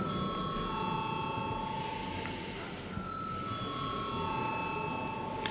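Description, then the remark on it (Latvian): A parliament voting bell rings before a vote on urgency for amendments to the Diplomatic and Consular Service Law, a steady, sustained electric ringing with bright overlapping tones that holds at an even level from start to finish, with no voices. “Lūdzu, zvanu.”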